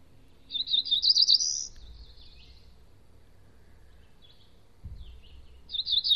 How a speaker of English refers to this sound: Let's just see what the cerulean warbler sounds like.